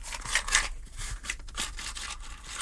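Scissors cutting in a run of crisp, hissy snips at an uneven pace, the blades rasping through material on their own with no voices, at a fairly soft level.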